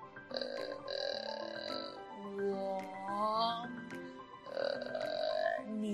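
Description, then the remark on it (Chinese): A creaky, rattling vocal fry sound is held by a voice, then shifts into clear sustained voiced tones with a rising and falling pitch glide, moderately loud and without spoken words, demonstrating a singing technique of moving from vocal fry into voiced tone. “那接下来我们还可以告诉大家一个技巧，那就是气泡音转发声。”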